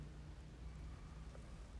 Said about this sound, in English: As I was saying, it is such a complex sound. You can hear the general hiss of thousands of tiny droplets hitting the ground at every second. That sound is obvious. But there's also the soft drumming of the rain on the roof.